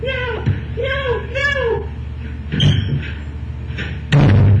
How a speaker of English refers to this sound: Broke the door down. Now you're coming with me.